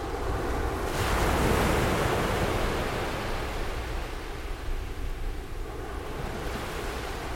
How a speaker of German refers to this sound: Ich habe den Klang der See genommen. Einen Klang, den die meisten Leute wahrscheinlich als das Gegenteil von Verkehr empfinden. Der Klang der See ist natürliches weißes Rauschen. Ich hatte Mikrofone an der Küste der Normandie platziert